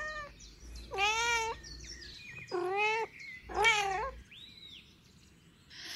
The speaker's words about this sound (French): C'est le chat qui miaule.